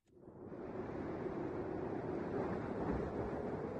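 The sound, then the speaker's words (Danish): A steady rush of wind in Alaska swells up in the first half-second and then blows on unbroken, a dense, fairly loud roar with a low rumble beneath it and no voices. “Kan du høre Alaskas vind suse?”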